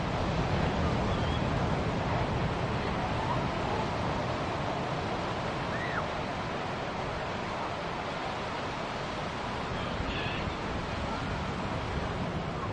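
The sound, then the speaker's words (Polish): Steady seaside surf washes in continuously, a broad, even roar of breaking waves with some wind noise, with no clear pauses between swells. “A w czasach dziadków na wsi zmieniły się w wakacje z rodzicami nad morzem, gdzieś za granicą.”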